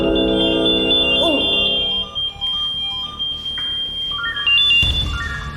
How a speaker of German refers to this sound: Jetzt klingelt hier was? Jetzt sind Probirufe. Einmal in der Woche wird getestet, ob unsere Funkmeldeempfänger funktionieren. Und jetzt fangen gleich alle Funkmeldeempfängers piepsen an.